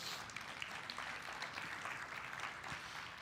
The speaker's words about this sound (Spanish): ¿Podemos darle un aplauso al Señor por su palabra?